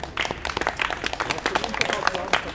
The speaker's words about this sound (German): Ansonsten erstmal einen herzlichen Applaus, dass ihr alle dabei seid.